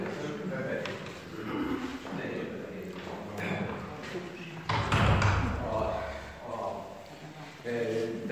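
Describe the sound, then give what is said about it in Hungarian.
A door is pushed shut with a single dull, fairly loud thud, heard over a steady background of people talking and room noise. “Ugye nem vesz rossz néven, én becsukom ezt az ajtót.”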